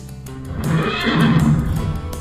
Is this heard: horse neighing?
yes